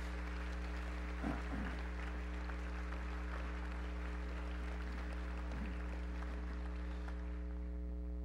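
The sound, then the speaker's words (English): A church audience claps for graduating students in a steady, sustained wash of applause that tapers off toward the end, with a constant low hum running underneath. “Congregation, clap for these.”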